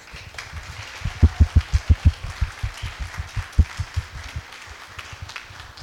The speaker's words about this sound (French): Donc voilà, je voulais vraiment les honorer et même les applaudir, si ça vous dit.